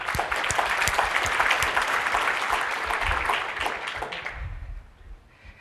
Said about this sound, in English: They have been really great, and that's another group of people that we would definitely like to thank with a round of applause.